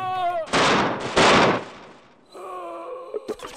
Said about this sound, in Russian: Не успел только закрыться кровавой рукой. Выстрел, выстрел, еще один другой.